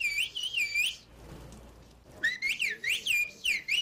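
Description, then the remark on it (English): Turkish whistled language (Kush Dili), a wordless language from Turkey, whistled in clear, loud, bird-like warbling phrases, rising and falling melodically in two bursts separated by a brief pause, with no spoken talk. “there is a language in Turkey that is whistled.”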